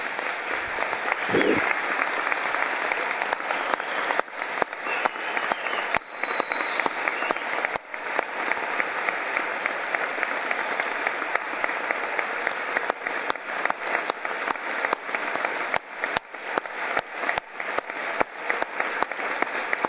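An audience applauds the volunteers of ONCE, the Spanish organisation for blind people, after being asked to stand. The clapping is steady for the full twenty seconds, a dense, even wash with no pauses, loud and sustained.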